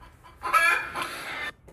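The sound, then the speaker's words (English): A chicken lets out a single loud, harsh crowing call lasting about a second, with no one talking over it and a brief trailing cluck at the end. “Is that chicken pissing you off, or are you guys fine?”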